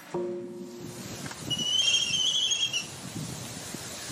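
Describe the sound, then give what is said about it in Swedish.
An albatross call: a short low, harmonic moan at the start, then a thin, high whistling cry held for about a second, over steady rushing wave-like noise. “Det tillhör faktiskt albatross.”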